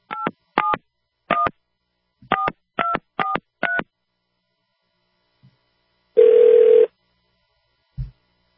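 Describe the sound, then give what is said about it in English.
A telephone keypad beeps out seven quick touch-tone digits in an uneven rhythm, dialing the CDC, then after a pause a single ringback tone sounds once, followed by a soft click. No voices. “We'll see if the CDC can pick up a phone.”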